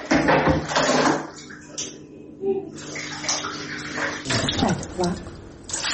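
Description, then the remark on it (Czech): Water pours and splashes steadily from a canister into a washing machine drum in a home without tap water in the Kuće Rakića settlement near Tuzi, a continuous gush with brief lulls, while voices talk faintly in the background. “Vode iz vodovoda nema, pa mora da je iz bidona sipa u veš mašinu.”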